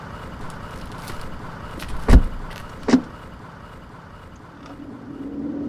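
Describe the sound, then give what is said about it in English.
Two sharp car door thuds land close together over a low background rumble, then a car engine hums and swells steadily as the vehicle starts moving. “Get in the fucking car.”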